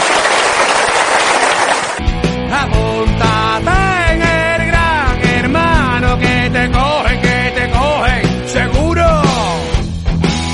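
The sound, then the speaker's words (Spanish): A dense burst of audience applause fills the first two seconds, then cuts off abruptly as loud music with a melodic, wavering lead line takes over for the rest. “Tranquilo, un aplauso para Nixon.”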